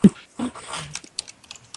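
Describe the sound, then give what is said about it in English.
Quick, irregular clicks of typing on a mechanical keyboard fill the second half, following a couple of louder, duller thumps at the start. There is no talking. “And I can hear you going right now. With your mechanical fucking keyboard.”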